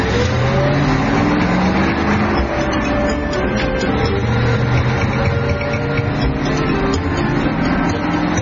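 A car engine is started and runs loudly, its pitch rising and shifting as it revs and drives out of a yard, with a steady mechanical drone throughout and no voices.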